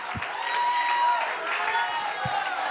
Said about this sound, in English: If you're with me, clap your hands unto the Lord. Magnify the name of Jesus.